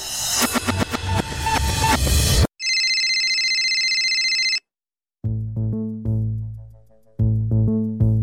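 A mobile phone rings loudly and alone with an incoming call: a dense electronic burst, then a steady high warbling tone for about two seconds, a brief pause, and a repeating melodic ringtone pattern.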